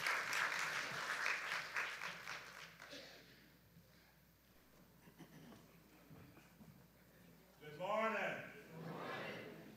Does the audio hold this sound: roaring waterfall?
no